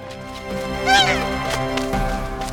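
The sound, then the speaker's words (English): A single harsh, honking call of an ibis perched high on a tall shelf rises briefly over a low, steady background rumble. It is loud and cries out once. “High above him, a real, live ibis stood perched on a tall shelf.”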